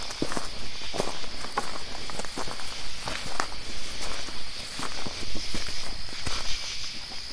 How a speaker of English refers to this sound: The recorder I left out at the cemetery at Pandemonium, you can hear something step as the insects get louder. Yeah. It moves with, it's crazy. Yeah. Now I'm not, you know, hey, maybe that's an animal, but if it's an animal, it's a clever one.